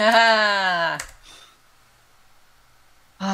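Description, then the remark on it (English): A sustained voice gives way to a quick, crisp papery swish of a high-quality glossy page being turned in a photograph book. A faint rustle follows before the voice returns. “Of course, I'm also glorifying the feel of this high quality glossy paper as I'm turning pages.”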